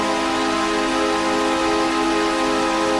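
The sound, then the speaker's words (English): The New York Islanders' hockey goal horn, the one heard for decades at Nassau Coliseum, blares in one loud, unbroken, deep and brassy note held for about three seconds over a steady wash of hissing noise. “That led the team to consider changing their goal horn from the one heard for decades at Nassau Coliseum.”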